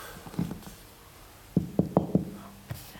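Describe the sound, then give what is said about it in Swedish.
A quick run of four hollow knocks on a thin copper-foil object under construction, fairly loud, with a couple of softer taps before and one after. “Ja, för knackar vi på den som är under konstruktion så är den ju helt...”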